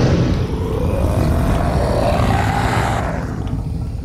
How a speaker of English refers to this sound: And the witch heard a roar that was scary and loud.